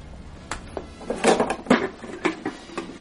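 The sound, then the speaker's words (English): Someone rummages through a cupboard looking for a kettle: a flurry of irregular knocks and clatters of doors and kitchenware, several sharp bangs in quick succession with no talking. “Come in, I'll see if I can find Kettle.”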